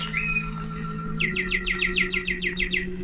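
Birdsong: a brief whistled note, then a quick, even trill of about a dozen bright chirps, fairly clear, over a low steady background hum.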